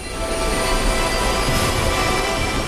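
A loud, steady mechanical roar fills the whole clip as helicopter rotors whir at maximum power while the helicopter, carrying Jack, Curtis and one other, lifts off the ground at night, with a dense rushing wash and faint high whining tones.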